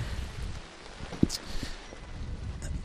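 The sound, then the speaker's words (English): Steady rain patters continuously across the whole stretch, with a low rumble of wind underneath and a few sharper drips or knocks standing out near the middle. “Look at this beautiful rain.”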